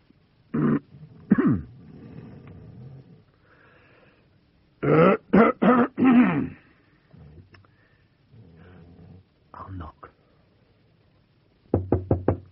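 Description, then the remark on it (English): A person coughs deliberately to wake a sleeping man, in short, loud bursts: two single coughs, then a quick cluster of four, and more near the end, with quiet pauses and faint murmuring in between. “I'll cough.”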